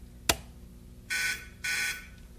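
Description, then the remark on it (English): A sharp click, then two loud electronic buzzes, each about half a second long with a short gap between them, harsh with strong high-pitched tones. “See, just by those two little dots and the buzzer, you can see.”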